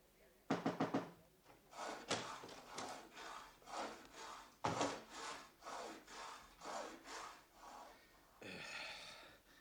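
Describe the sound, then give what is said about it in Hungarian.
A saw rasps back and forth through metal gas pipes in a steady run of gritty strokes, with a few quick sharp strokes at the start and a scraping pass at the end. “Mit csinálsz ezekkel a gázcsövekkel? Fűrészeltem.”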